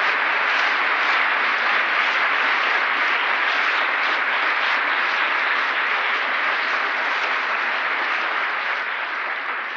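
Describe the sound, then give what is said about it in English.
A crowd of churchgoers applauds steadily for about ten seconds after a preacher ends his sermon, a dense, loud wash of many hands clapping at an even level throughout, with no voices heard over it. “I didn't mean to entertain you to be applauded or for applause.”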